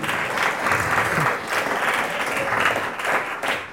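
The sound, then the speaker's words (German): A crowd applauds steadily to welcome a talk show guest, many hands clapping in a dense, continuous patter that stays fairly loud throughout, with no one speaking over it. “Ich bitte nur noch einen Applaus”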